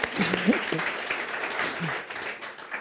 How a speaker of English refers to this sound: So I guess now we applaud, yeah.